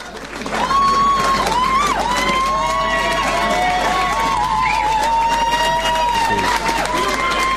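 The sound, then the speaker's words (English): A crowd at the National Press Club applauds steadily as John Stanhope walks up to the stage, after a quick swell at the start, with scattered cheers and voices rising above the dense clapping for several seconds. “He's currently walking up towards the stage with a fair bit of applause.”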